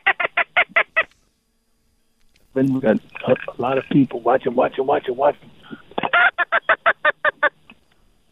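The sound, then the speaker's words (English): Quick bursts of short, sharp teal duck call notes blown by a duck hunter with Cajun Fishing Adventures on opening day of duck season in Louisiana's west zone, about half a dozen at the start and a longer string at the end, with a man talking in between. “Yeah, sound like a teal call you're putting on there.”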